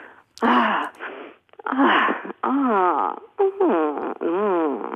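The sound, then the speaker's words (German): A voice demonstrates a series of drawn-out moans with sliding pitch, separated by short audible breaths; fairly loud, and without any spoken words. “Also auch ein, wie fühlt sich mal an, zu stöhnen. Das trauen sich die meisten nicht. Zum Beispiel einfach nur mal zu atmen, lauter oder schneller zu atmen.”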